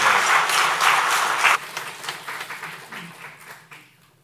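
A crowd at a church service applauds to encourage a church member about to give a testimony. Dense, steady clapping holds loud for about a second and a half, then thins into scattered claps that gradually fade away.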